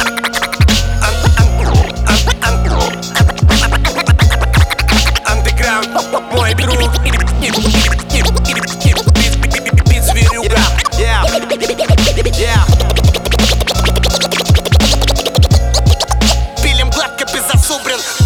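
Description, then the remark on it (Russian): An instrumental hip-hop beat, played on a rapper's request to rap over, with punchy kicks, a heavy looping bassline and turntable-style scratches riding over a dense, steady groove, loud throughout with no vocals. “Дайте мне бит.”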